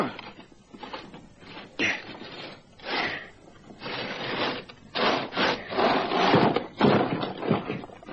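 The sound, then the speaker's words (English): A heavy solid steel trapdoor in the middle of a concrete slab about 30 by 30 feet is hauled open with a series of harsh, grinding scrapes, loud rasping bursts that surge and pause irregularly over several seconds. “Now, come on, help me with this door.”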